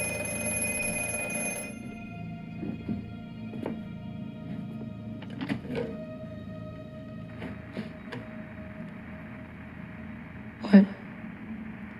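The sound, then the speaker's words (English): A telephone rings with a bright, tonal bell in the opening seconds as Finn gets a phone call from Robin, then quieter electronic tones linger over a low room hum, with a sharp knock near the end. “And Finn gets the phone call from Robin.”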